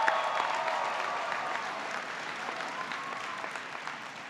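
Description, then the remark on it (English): An audience applauds the veterans present, steadily, with dense overlapping clapping at an even moderate level that holds throughout without rising or fading, with faint tonal murmurs mixed in and no clear speech. “Can we give these folks a round of applause?”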